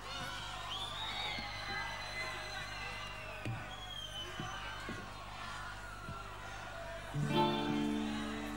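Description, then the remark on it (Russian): A large concert crowd in Kyiv cheers and whoops continuously, a dense roar of many voices with high shouts rising above it, swelling louder near the end. “А чё, хорошо встречает город Киев? Приятно, на самом деле.”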